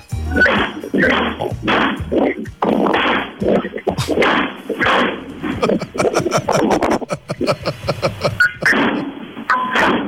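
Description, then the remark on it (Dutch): Carbide cannon blasts fired from milk churns go off one after another in a rapid, irregular series of sharp booming bangs over a noisy, rumbling outdoor background, loud. “Komt er een serie allemaal melkbussen”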